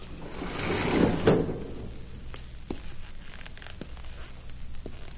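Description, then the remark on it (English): A window slides open as someone sneaks in to get a hen, a rough, scraping rumble lasting about a second, followed by a few sharp little clicks and knocks in the quiet that follows. “I'll just sneak in this window.”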